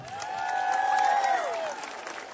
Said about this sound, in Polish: Ale także witamy siebie nawzajem i czynimy to gorącymi oklaskami.